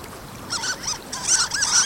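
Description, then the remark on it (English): Harlequin duck calls: a quick series of high, squeaky notes, about five or six in under two seconds, over a faint, steady background hiss. “The harlequin duck is no stranger to treacherous waves either.”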